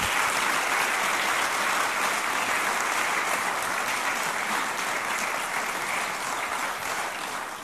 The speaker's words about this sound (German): Toll, dass ihr da seid. Ich glaube, das hat auf jeden Fall einen Applaus verdient.